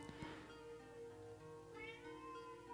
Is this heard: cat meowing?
yes